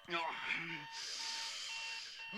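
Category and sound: household object, alarm clock ringing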